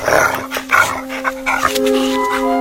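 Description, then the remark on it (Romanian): A dog following a person's trail barks and yips excitedly in a quick run of sharp bursts, with a high, sustained whining tone threading between the barks. “Câinele îmi luase urma și se apropia de mine.”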